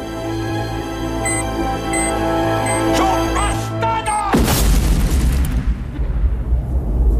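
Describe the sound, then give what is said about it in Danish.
In a film scene, a sudden, loud bomb explosion erupts after a sustained tonal music-like drone, followed by a long rumbling, crackling roar that fades slowly as debris settles. “der er en bombe ind i, og så kigger han lige mod Gud og siger, bastardo, eksploderer”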